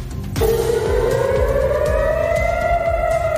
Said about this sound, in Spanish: Las sirenas han sonado en ciudades como Jerusalén, donde las calles permanecen desiertas. La guerra continúa. Jerusalén o, por ejemplo, en Tel Aviv, donde en efecto las sirenas han vuelto a sonar.